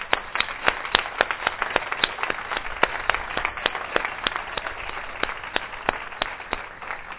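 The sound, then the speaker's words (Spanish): A church audience applauds for about seven seconds, a steady stream of sharp, overlapping hand claps at a moderate level with no voices over them. “Un aplauso.”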